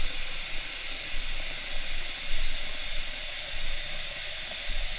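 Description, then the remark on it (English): Hot water runs steadily from a tap into a gallon pitcher being rinsed with hot water and soap to clear out old tea, a continuous hissing rush with slight swells as it fills and swirls, with no voices. “So I'm probably going to rinse out this pitcher about 3 times just to get the old tea out of it, just using hot water and soap.”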